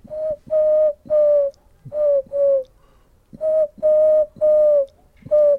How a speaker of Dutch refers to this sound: Je hebt 2 geluiden van duiven die heel erg op elkaar lijken en die beide in de stad voorkomen. Dus de houtduif doet altijd 5 tonen. Die doet...